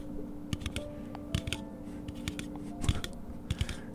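Crunchy chewing of a big piece of hardtack: irregular, sharp cracking bites and grinding crunches, fairly loud over a low steady hum, with no talking.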